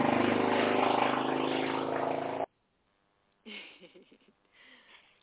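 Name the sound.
motorcycle passing outside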